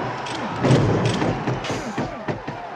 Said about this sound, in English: And there's animal sounds and jet engines and flashbulbs as that just run of punches goes through. Have we just gotten so accustomed to the exaggerated sounds of cinema violence that it has become natural to our acclimatized ears?